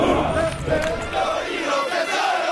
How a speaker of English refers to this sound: The sound of my city every morning from Fort Hood, Texas, is the sound of soldiers training.